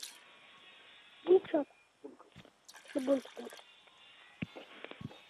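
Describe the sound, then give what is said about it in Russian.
A steady, thin stream of water runs from a tube into a basin as a finger is slowly released from the tube, a faint continuous hiss under several brief louder splashes and murmured voice fragments. “из этой трубки начнет бить вода. Я специально приготовил тазик, чтобы мне эта вода не оказалась на полу.”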